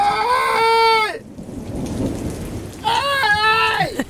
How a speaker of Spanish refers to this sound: Está lloviendo, ¿no?